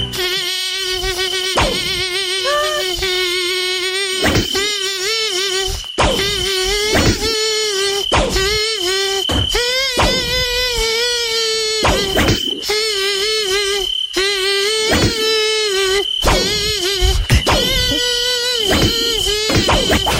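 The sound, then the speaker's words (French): A mosquito in a studio: a loud, steady, nasal buzz glides from pitch to pitch, picking out a catchy pop tune with short pauses between phrases, alone with no talking. “il y a des moustiques. En ce moment, on en a récupéré un dans notre studio, justement, qui va reprendre un tube Nostalgie.”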